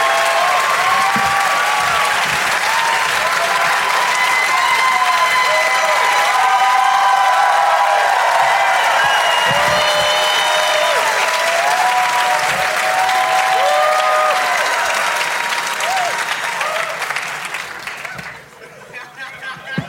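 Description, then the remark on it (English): A crowd applauds loudly and steadily, welcoming guests Ken Jennings, W. Kamau Bell, Rory Scovel and Werner Herzog, with scattered cheers and whoops rising over the dense clapping before it tapers off near the end. “Everybody, please give a big, warm welcome to Ken Jennings, W. Kamau Bell, Rory Scovel, and Werner Herzog.”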